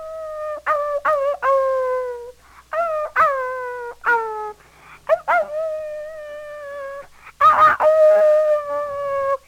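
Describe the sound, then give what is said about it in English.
A person imitates a howling dog, producing a series of drawn-out, wavering howls in short bursts, some with sharp yelping onsets, with brief pauses between them. “It sounds just like a dog. Ow, ow, ow!”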